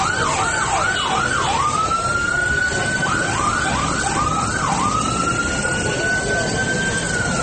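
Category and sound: vehicle, ambulance and police sirens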